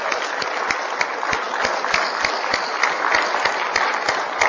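A crowd applauds steadily, dense overlapping claps forming a continuous, fairly loud wash of sound with sharp individual hand claps popping out, sustained evenly for several seconds without any voices.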